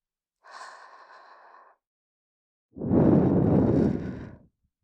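Two breaths are blown softly into the ear: a light, airy puff lasting about a second, then after a pause a longer, fuller rush of air with a breathy low rumble. No talking.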